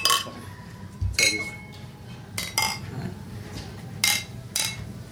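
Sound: beer glasses clinking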